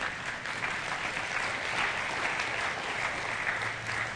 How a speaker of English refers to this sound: Hey, if you're going to clap, you got to clap.